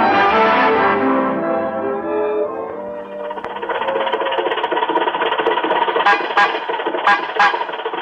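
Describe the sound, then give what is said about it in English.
An old-fashioned car horn blares at a red light with a rich, wavering tone for a few seconds, then the car's loud engine sputters and rattles steadily, punctuated by a few sharp bursts. No one speaks. “You don't honk at red lights, you stop for them.”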